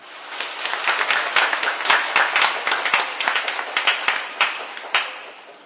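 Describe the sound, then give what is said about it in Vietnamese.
A crowd applauds steadily to receive gifts of a Divine Mercy picture and a Divine Mercy rosary, many hands clapping in a dense, continuous patter that holds at a fairly even level throughout, with no talking over it. “Mời anh chị em chúng ta đón nhận và chúng ta cho một tràng pháo tay.”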